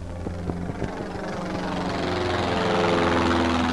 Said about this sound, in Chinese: 在远处，一架直升飞机在屋顶上面掠过，像一只蓝色的瓶子似的徘徊了一会儿，又绕了个弯飞走。这是警察巡逻队在四查人们的窗户